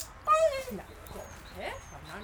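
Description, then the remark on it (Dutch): A dog, Leentje, being picked up from doggy daycare, gives a short, high-pitched whimper that slides downward, followed by a softer whining squeak, with faint voices murmuring in the background. “Ja, ze zit samen met 1 of 2 andere hondjes in een ren.”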